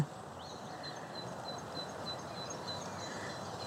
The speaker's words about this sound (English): Blackbird.